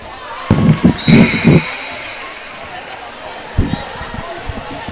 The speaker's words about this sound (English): And you should be able to hear the crowd noise.